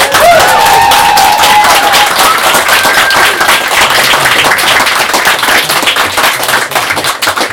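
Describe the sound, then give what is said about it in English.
Loud, sustained applause from a large audience after a poem is read, dense rapid clapping with a few whoops and cheers rising above it, steady throughout before thinning slightly at the end. “It's very moving to me to be able to read her words and to have her applauded.”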